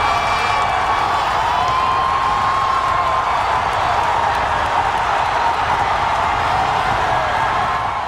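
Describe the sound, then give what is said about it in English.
A huge racetrack crowd at Belmont Park in 2015 roars and cheers nonstop for about eight seconds as American Pharoah hits the top of the stretch in the Triple Crown race, a dense, loud wall of voices with scattered high shouts and whoops rising above it. “But in 2015, I was in the stands at Belmont Park when American Pharaoh hit the top of the stretch. Here's what it sounded like.”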